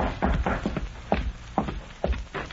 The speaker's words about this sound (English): Then, one evening, long after darkness had fallen, the sheriff heard a soft rap on the door of his home.